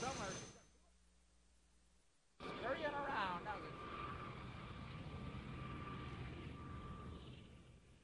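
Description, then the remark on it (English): After a brief quiet stretch, a helicopter roar cuts in abruptly. The loud, steady whirring hangs overhead with a slight sweeping pitch early on, then holds until fading slightly at the end. “Yeah, you can just mix in some more helicopter over it as you go.”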